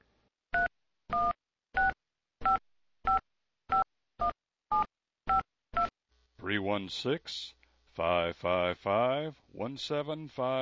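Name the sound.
telephone touch-tone dialing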